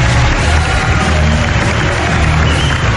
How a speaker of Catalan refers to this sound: ens acompanyeu en aquest espai marcat, plaça de les Nacions sense estat a Tàrrega, per tant, tot l'equip, tota la gent que anirà passant, un aplaudiment per aquesta convocatòria.